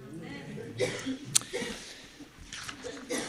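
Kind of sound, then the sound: human body sound, cough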